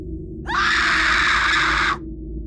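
A woman lets out a single loud, sustained scream lasting about a second and a half, rising sharply at the start and cutting off abruptly, with a low hum underneath.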